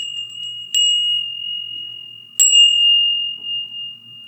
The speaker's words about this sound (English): This one is really a high-pitched bell. They have all different tones, surprisingly. Okay, and so 12 dancers, 12 furin? 12 bells.